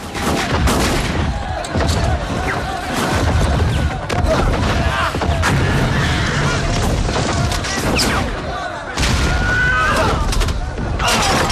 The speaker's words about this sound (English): Gunfire is exchanged as men from the hostile vessel swing across to the boat they have captured.